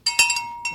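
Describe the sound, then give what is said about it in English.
A small bell is rung with several quick strikes, its bright, high metallic tone sustaining and shimmering between hits before a final ring rises again. No one speaks. “Let me ring the bell”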